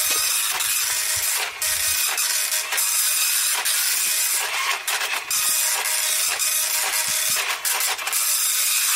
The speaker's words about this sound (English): Very slow printer, Jim.